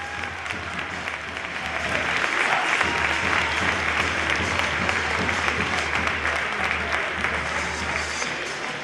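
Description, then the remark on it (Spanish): A large football stadium crowd, all standing, applauds Nacho Fernández, the team's captain until the day before, a dense wash of clapping that swells slightly after the first couple of seconds and holds loud and continuous, with faint crowd murmur underneath. “Todo el público en pie aplaudiendo al que en el día de ayer era el capitán del equipo.”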